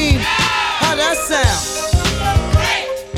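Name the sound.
crowd screaming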